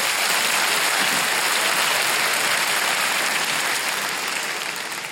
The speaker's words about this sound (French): Je sais pas si vous avez senti plus de volume mais moins d'enthousiasme quand même. Et c'est parce que là, tous ceux qui viennent d'applaudir, ils savent un truc que les autres, vous ne savez pas.